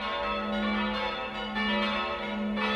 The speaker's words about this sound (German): In dem schmalen und gedrungenen Westturm auf der Nordseite hängen insgesamt 5 Glocken.